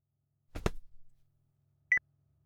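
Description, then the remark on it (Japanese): A phone gives a single short, bright electronic beep for an incoming call near the end, shortly after a dull knock-like clatter; otherwise it is quiet and no one speaks. “おた、電話だわ。”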